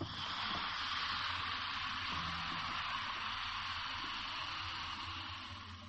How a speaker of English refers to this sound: You know what makes this effect so remarkable is that it consists of dropping two tablets of the sponsor's product into a glass of water and letting it fizz, like this.